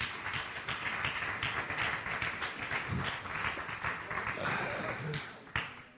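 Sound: audience applause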